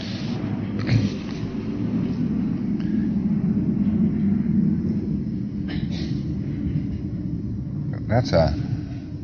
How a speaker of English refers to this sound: That's one of these new jet fighters they're practicing.